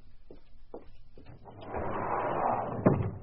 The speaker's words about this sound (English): All you have to do is open your sliding glass door.